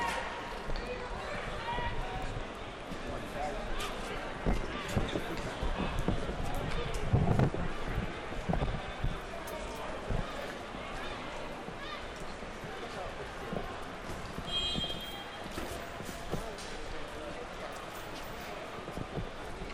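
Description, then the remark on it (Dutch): Horses hunting people clatter in a busy, rhythmic stream of clip-clops, fairly loud, mixed with running footsteps and indistinct crowd babble throughout. “Godverdomme, nou zijn ze mensen aan het jagen met paarden.”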